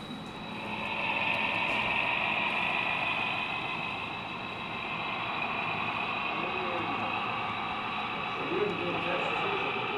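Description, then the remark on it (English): A model train of the Scioto Valley Railroad club runs along the track at normal track speed with a steady, continuous mechanical whir and a high, thin motor whine that holds level throughout, with faint murmuring voices underneath. “If you're traveling at normal track speed like he is here, depending on how many times you stopped, like you saw this train over here stopped until the passenger train could get by, it'll take about 20 minutes, 25 minutes to get from end to end.”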